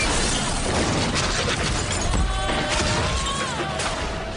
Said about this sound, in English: Three cars are involved in this terrifying depiction. We don't find out how many are killed in the crash, but its gruesome nature leaves enough for the imagination.